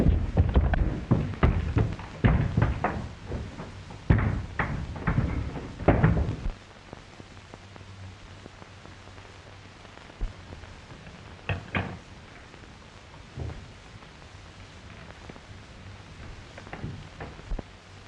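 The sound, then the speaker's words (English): An upstairs door is tried to see whether it is locked: a burst of loud, quick knocks and handle clatter for several seconds, then quiet with a few isolated clicks and thumps. No one speaks. “See if that upstairs door is locked.”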